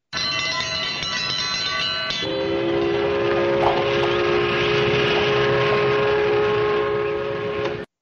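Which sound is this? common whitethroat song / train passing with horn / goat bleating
train passing with horn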